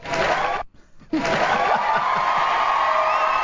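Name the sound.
crowd cheering sound effect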